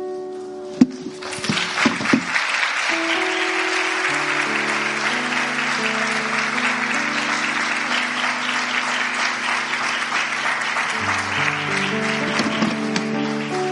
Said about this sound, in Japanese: Let's give another big round of applause to Pastor Matt.